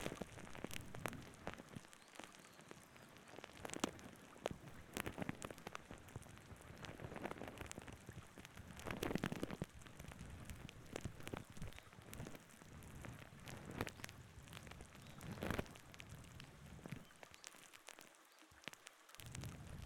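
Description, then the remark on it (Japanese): Cleansing foam fizzes and crackles right up close to the ear as it lifts away dirt during ear cleaning, a dense, steady stream of tiny pops and bubbles with occasional sharper snaps, and no one speaking. “ではでは、泡で汚れを浮かせまーす。”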